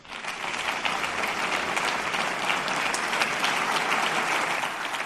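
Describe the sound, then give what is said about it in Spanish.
Sustained applause from a large audience at a ceremony in the courtyard of San Millán de la Cogolla, La Rioja, a dense steady wash of many hands clapping at once, loud and even throughout without pauses or voices standing out. “Aplausos como escuchan en San Millán de la Cogolla.”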